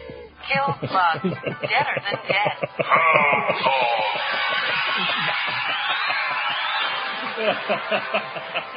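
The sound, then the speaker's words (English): Anguished human screams and drawn-out wailing rise into a loud, sustained, strained cry that blurs into a noisy wash of voices, then breaks into ragged, sobbing bursts. “And if not, it can at least drown out the screams.”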